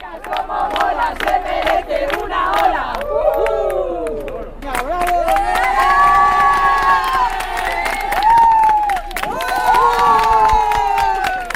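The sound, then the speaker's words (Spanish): A crowd of patients from the walk's previous edition two years earlier cheers and shouts farewell at the Hospital de la Princesa, voices rising in loud sustained calls and whoops, with bursts of clapping near the start and no single voice standing out. “Y en mitad de ese guirigay”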